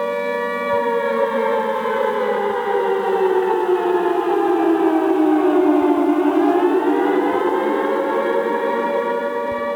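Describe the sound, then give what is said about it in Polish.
A loud civil defense alarm siren in Puławy wails steadily, its pitch slowly sliding down and then rising again in a long modulated sweep, a 3-minute modulated signal announcing an alarm, with no voices present. “Jeden to jest modulowany dźwięk syreny w okresie 3 minut, który wiąże się z tym, że jest ogłoszenie jakiegoś alarmu.”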